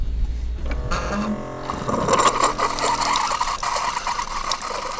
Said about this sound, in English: Okay, that's air conditioning water output plus construction hammering.